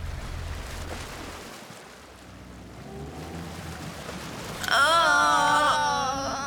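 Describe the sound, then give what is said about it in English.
Waves wash and slosh steadily against a ferry crossing to France over a low engine-like rumble, with a loud, wavering wail cutting in near the end. “Oh, dear. Look at the waves. I don't mind. I like boats.”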